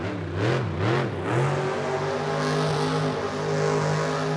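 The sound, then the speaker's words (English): The big, throaty engine of the Gravedigger monster truck, on tour with the Advanced Auto Parts Monster Jam series, revs hard several times in quick succession, pitch rising and falling, then settles into a loud, sustained high roar. “And as soon as they give you the green light to hit the floor, you're on the gas.”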